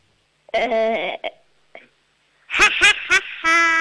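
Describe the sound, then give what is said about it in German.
A 7-year-old girl from Upper Austria imitates a witch's cackle on the radio: a drawn-out, high-pitched shriek, a short pause, then a burst of rapid, squealing laugh pulses, loud. “Du, und jetzt hätte ich noch gerne, dass du wie eine Hexe lachst.”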